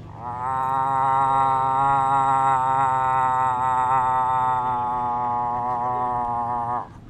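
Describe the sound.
A first-time competitor at a moose-calling contest with ten competitors imitates a moose call with one long, loud, nasal, buzzy tone, held at a steady pitch for about six seconds before cutting off abruptly.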